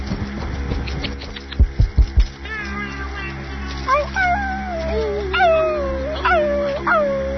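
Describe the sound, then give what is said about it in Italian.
A person imitates a puppy or coyote with a run of high, sliding whimpers and short howls, fairly loud, after a few dull thumps at the start. “che sta imitando il cagnolino o il coyote, non so, vabbè.”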